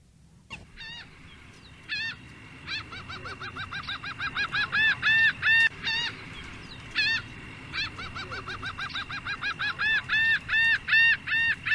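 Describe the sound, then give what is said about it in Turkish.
A series of loud, harsh gull calls repeats in quick rhythmic bursts, starting sparse and building into a steady, insistent chorus of squawks with no voices. “Martı sesi alalım.”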